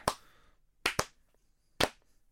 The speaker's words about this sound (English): There we go. That's some good clapping. That's not even a sound effect. That's real. That's from the heart right now.